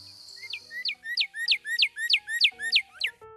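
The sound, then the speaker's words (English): A cardinal sings a quick series of about nine loud, clear, downslurred whistles in a steady rhythm, with no voices. “Let's listen again to its song, Cheer, Cheer, Cheer, and Birdie, Birdie, Birdie.”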